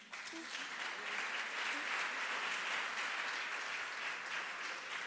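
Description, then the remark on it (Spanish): A room full of people claps steadily at a 2017 public policy competition event in Chile, as a project on environmental enforcement and sanctions in Chile is announced, a dense, even wash of applause that holds at a fairly constant level throughout without pause, with no voices standing out. “¿Un aplauso?”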